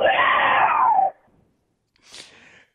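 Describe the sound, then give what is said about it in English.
A voice imitates a mountain lion's scream: a loud, raspy, high-pitched shriek held for about a second, then after a pause a shorter, breathier second cry that fades out. “It makes me so mad, I think I'm turning into a mountain lion.”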